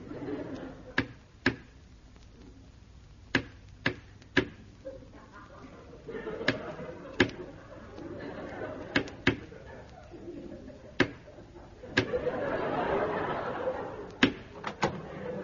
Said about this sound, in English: Well, give the code knock, then.